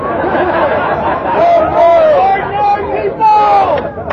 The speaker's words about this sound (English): I hear an obscure crowd.